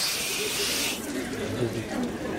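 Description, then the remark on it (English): A loud burst of hissing high-pressure water spray fills roughly the first second, then cuts off, leaving a softer rushing background with low murmuring voices underneath. “We're not lacking for water pressure, that's for sure.”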